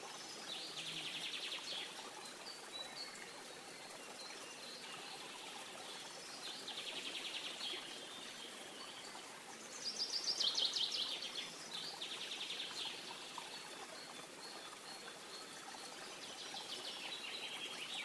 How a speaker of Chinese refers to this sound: 今天是风和日丽的一天，你的眼前出现了一片幽静的森林。在这片森林里，有一条小溪在流淌。